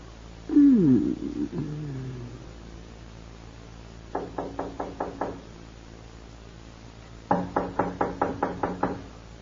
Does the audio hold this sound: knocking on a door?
yes